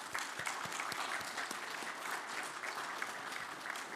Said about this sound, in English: And let's go ahead and give her a round of applause.